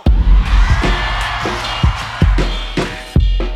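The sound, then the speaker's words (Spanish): A large crowd in Mexico lets out a sustained, loud collective ranchero yell (grito ranchero), a dense wall of overlapping voices with a few sharp thumps and bursts rising through it. “A ver, México, quiero escuchar un grito ranchero.”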